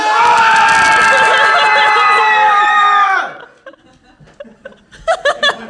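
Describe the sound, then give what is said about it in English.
An audience cheers and yells as loud as it can for a team, about three seconds of dense sustained roar of many voices, then cuts off abruptly into scattered quieter laughter and murmurs. “If you think that's the team that would win, cheer as loud as you possibly can.”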